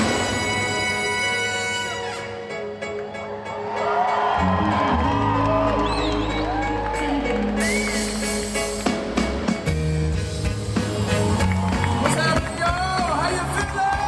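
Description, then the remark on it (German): A concert crowd cheers and whoops over steady, loud live music in hot sun on a Saturday afternoon, with a dense wash of voices swelling after a few seconds and continuing throughout. “Das Publikum lässt sich absolut mitreißen.”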